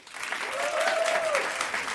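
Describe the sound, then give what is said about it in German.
A crowd claps steadily for about two seconds: dense, even applause from a moderate-sized audience for a submitted question, with a brief sustained tone drifting over the middle of the clapping. “Jetzt euer Applaus für die Frage von David.”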